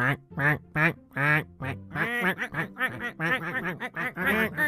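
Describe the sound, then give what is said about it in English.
A flock of ducks gathered in a tree quacks loudly while eating sandwiches spread on the branches, with many nasal calls overlapping in a dense, busy chatter that continues without pause. “Soon a whole flock of ducks had gathered in the tree around them.”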